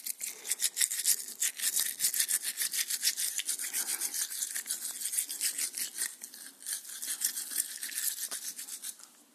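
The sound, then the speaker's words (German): Hail falling in a dense, rapid clatter of countless tiny hits, a bright hissing patter that keeps up steadily for about nine seconds with no voices. “Jetzt kommt das Geräusch des Hagels.”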